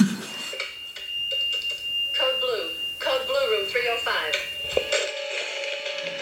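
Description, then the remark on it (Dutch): A hospital room alarm gives off a steady, high-pitched electronic beep that runs through the whole clip, fairly loud, while voices talk over it as nurses rush to the room. “Zuster snellen naar de kamer waar het alarm, de piep, gaat.”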